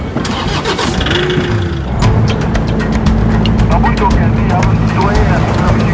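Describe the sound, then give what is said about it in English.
A patrol car engine turns over and catches about two seconds in, then settles into a steady rumbling idle with some clicking and rattling on top, as detectives set out to show the area of a recent killing. “going to take us out in the patrol car and show us the area where one of the most recent witch killings happened.”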